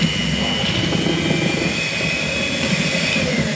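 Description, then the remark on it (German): A steady electric motor whirs without pause, a low buzzing hum beneath a thin, high whine that holds an even pitch and loudness throughout, like a hand mixer running continuously. “Handrührgerät, Handrührbesen, so ein Pürierstab, der blitzt Dings nicht, oder?”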